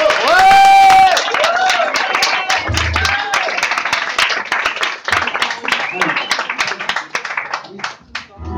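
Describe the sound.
An audience breaks into loud applause, many hands clapping in a dense, steady patter, with a high whistle and voices rising at the start before the clapping thins out toward the end.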